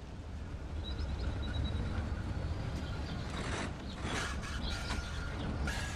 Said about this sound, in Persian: تو هم صدای موتورشو میشنوی؟ آره. مثل خورناس و ناله است نه؟ دقیقاً.